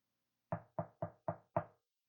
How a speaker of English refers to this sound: He stands at the door and knocks, waiting for us to open to invite him in.